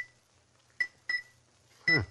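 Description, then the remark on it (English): Three light taps of a silver pencil on a rose crystal bell whose clapper has been taken out, each giving a short, bright, high-pitched ting; the third strike is louder, with a brief falling ring before it cuts off. “Suppose I tap it with this silver pencil. That ought to make it ring.”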